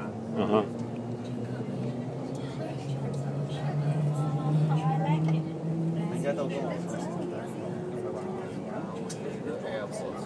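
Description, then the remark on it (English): A train rolls steadily along the tracks, heard from on board as it starts moving and gathers speed from about 25 to 105 km/h, with a continuous low rumble, a rising mechanical whine and faint voices murmuring underneath. “I don't know what's underneath the train. I'm passing the train right now, but I don't know how fast we're going.”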